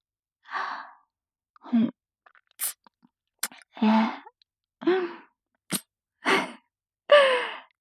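A series of about eight wet licking and mouth sounds in short, irregular bursts, some breathy and smeared, others sharp little clicks, with silence between them and no talking; the licking is a playful, cat-like show of affection.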